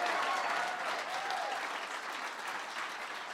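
A crowd claps in steady, dense applause, a broad wash of hand claps that holds at a fairly even level throughout, with a few faint cheers mixed in and no talking.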